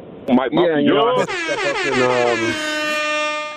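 A blaring air horn sound effect with rich, buzzy harmonics, opening with a wavering, warbling tone before settling into a loud, steady blast that holds for a couple of seconds and then fades.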